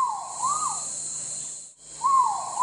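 A rising and falling whooping call from a gibbon, sounded twice, with each swooping note climbing then sliding down. A steady high insect-like buzz continues behind it, and no one speaks.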